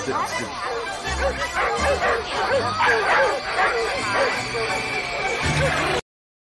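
Several dogs bark and yip frantically at once as they chase an alien in a little go-kart, a dense, overlapping chorus of high excited yelps that keeps going for about six seconds, loud, then cuts off abruptly.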